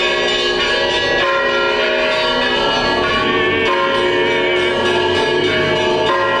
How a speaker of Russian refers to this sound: Предваряет праздник крестный ход. Раздается звон колоколов, и верующие с иконами и хоругвями в руках обходят вокруг храма с молитвой.